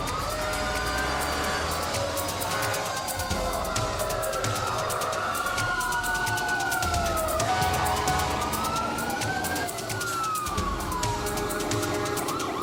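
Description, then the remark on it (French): A loud wailing fire truck siren of the Richmond-Augusta fire department in Georgia, responding to an emergency call to a burning house on 15 August 1998, rises and falls in overlapping sweeping tones with steady rumbling traffic underneath, continuous throughout, with no voices. “Le 15 août 1998, le service des incendies de Richmond Augusta, en Géorgie, répondit à un appel d'urgence.”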